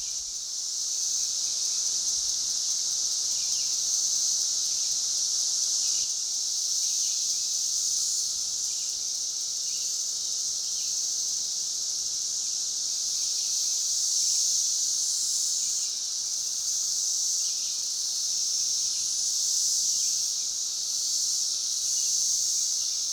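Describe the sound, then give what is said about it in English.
A dense, unbroken chorus of 17-year periodical cicadas in Illinois, a loud high-pitched drone that holds steady for the whole stretch with gentle swells, heard alone with no voices. “Some parts of Illinois are still in the noisy throes of the 17-year cicada emergence.”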